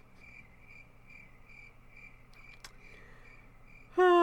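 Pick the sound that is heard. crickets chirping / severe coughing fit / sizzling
crickets chirping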